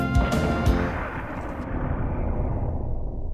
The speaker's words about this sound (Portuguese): O Conservatório de Greenwich confirmou com precisão: estamos na hora final e ecoa no cosmos uma explosão.